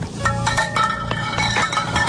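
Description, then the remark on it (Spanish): An ice chunk tumbling down a glacier crevasse, a rapid run of bright, ringing clinks and clattering knocks with a hollow, metallic resonance, fairly loud and continuous. “Pues hay gente que está aburrida y que dice, bueno, vamos a ver cómo suena la caída de un trozo de hielo justo en una ranura, en una fichura, en un hueco de un glaciar.”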